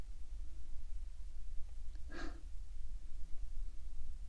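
A new, never-trained dog gives one short, breathy snort, a quick puff of air rising out of a steady low background rumble, with no voices.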